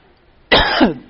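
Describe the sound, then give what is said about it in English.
A single loud cough bursts out after near silence and lasts about half a second, ending with a rough, throaty rasp. “The minute I said that, cough's about gone.”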